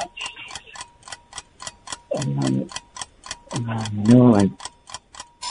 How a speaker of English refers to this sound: There's the buzzer.